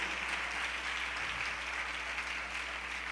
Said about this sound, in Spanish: Bueno, ¿puede darle un aplauso al Señor todavía?